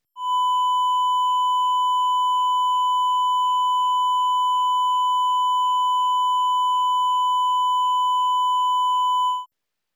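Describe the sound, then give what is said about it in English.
A steady, distorted sine-wave tone holds at one pitch for about ten seconds, its clipping adding a slightly buzzy, harsh edge. It is loud and unchanging, with no other sounds. “The 1,000 Hz sine wave clips symmetrically to produce 10% total harmonic distortion sounds like this.”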